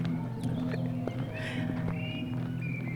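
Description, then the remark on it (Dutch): Footsteps of people walking outdoors over to a monument at an unhurried, steady pace, each step a distinct tap, with a constant low hum and faint high chirps in the background. “Zullen we er even naartoe lopen?”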